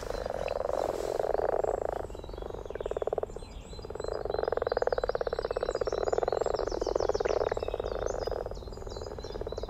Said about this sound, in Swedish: Jag vet inte om vi ska be Lisa i studion att spela upp lite vanlig groda.